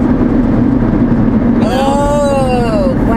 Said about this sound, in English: if you hear a loud sound, that's the rack that my husband put on my car that's now his car. And it makes us noise.